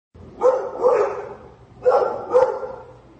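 A dog barks in two quick pairs, four sharp woofs in all with a short pause between the pairs, fairly loud against a low background hum.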